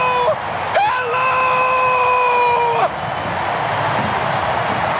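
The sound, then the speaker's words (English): A soccer commentator screams loudly after a St. Louis City SC goal against the Galaxy puts City ahead 2-1: a short burst, then a long, sustained, high-pitched yell of about two seconds that cuts off, leaving steady crowd roar underneath. “screams City leads is a good thing”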